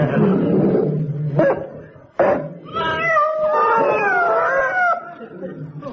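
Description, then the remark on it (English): Cats yowl and caterwaul in long, wavering, rising and falling cries, loud, with a rougher growling stretch before the drawn-out wails overlap near the end. “At least it's driven the cats back in again.”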